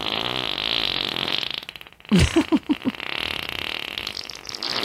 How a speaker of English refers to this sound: So good. F-A-R-T. Yeah. Fart, yeah.